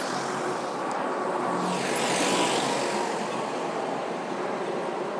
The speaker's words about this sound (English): So I'm just listening to the traffic over there. On the far side of this is sort of like a triangle junction at the start of a one-way system.